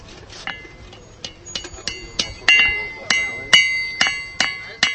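A blacksmith's hammer strikes metal about a dozen times at a blacksmith's stall at an Easter market, where craftsmen make horseshoes and bells over a blazing fire. The strikes come in an uneven rhythm, each leaving a bright, high ringing tone, growing louder and more regular toward the end.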